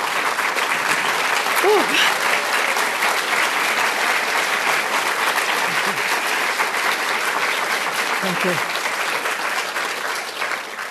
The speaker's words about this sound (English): Thank you for that incredible and warm applause.